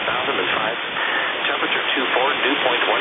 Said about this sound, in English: So some of these feeds aren't set up right, or they're farther away from the airport, so you may get static.